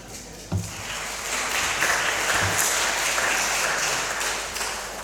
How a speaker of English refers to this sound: Round of applause.